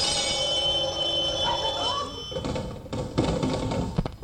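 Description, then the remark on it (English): An old-style telephone rings with a steady, buzzy metallic tone for a little over two seconds, then gives way to rough, clattering noise. “I'll give you the line, you ring the phone, okay?”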